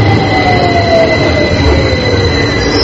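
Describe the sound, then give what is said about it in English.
A loud, steady rumble of a train on the Tube, the crowded, nearly 150-year-old underground train system, running on rails, with sustained high metallic wheel squeals and a dense low roar filling the whole stretch, no voices present. “Crowded underground train system, the Tube is planning for a 25% increase in passengers during the Olympics.”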